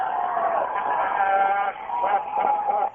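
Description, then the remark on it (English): A large mob at a riot cheers and yells loudly and continuously as people tip over police cars, many voices blending into a dense roar with rising whoops, briefly dipping before surging again. “And they're cheering.”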